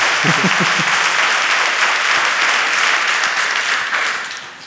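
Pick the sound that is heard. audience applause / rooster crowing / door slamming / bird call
audience applause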